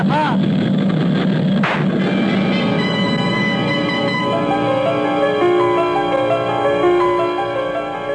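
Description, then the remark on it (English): A single sharp gunshot, a bullet fired at a man's head, cracks out early on over the steady, loud drone of an airplane engine, whose humming tones continue unbroken to the end. “I tried to jerk my head away frantically at the last moment, but I could feel the bullet smash into my skull and then burst in a fountain of searing sparks.”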